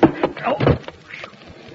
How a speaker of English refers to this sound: Hey, open the door